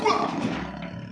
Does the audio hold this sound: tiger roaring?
yes